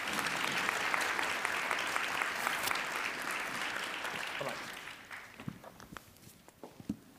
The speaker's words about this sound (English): So let me first ask a round of applause for our great panel here this afternoon.